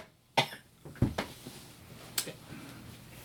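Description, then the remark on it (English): A person coughs several times in short, sharp bursts, followed by a couple of quieter coughs or throat-clearing sounds, moderately loud. “I don't know what the coughing's about.”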